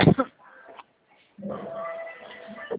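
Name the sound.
coughing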